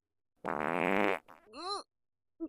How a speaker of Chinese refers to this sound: 好了，现在就慢慢的等他放屁就好了。 不过这要等到什么时候啊？